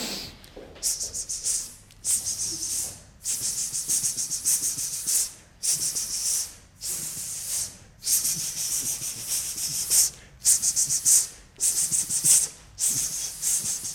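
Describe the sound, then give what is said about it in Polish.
People hiss a steady, bright "sss" in a series of about ten drawn-out bursts, each broken by a short pause for breath, with no talking in between. “I to samo, tylko że na S.”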